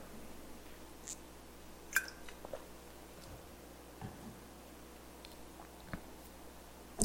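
Someone drinking water: a few soft sips and swallows with small wet clicks, scattered across an otherwise quiet pause with no talking.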